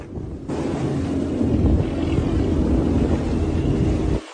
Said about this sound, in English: It's a helicopter right there.